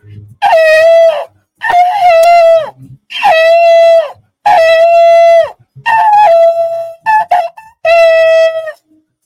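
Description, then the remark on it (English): Seven short, loud trumpet blasts sounding an alarm, in a row, each a bright, brassy tone held about a second at a steady pitch, with brief gaps between and no talking. “I'm gonna blow the trumpet and sound the alarm.”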